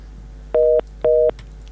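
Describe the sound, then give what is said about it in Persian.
Two identical electronic telephone tones, each a steady dual-pitch beep lasting about a quarter second, separated by a short gap, over a quiet line hiss with no voices, as a listener's call to a Radio Azadi phone-in is cut off. “متاسفانه که تماسشان قطع شد.”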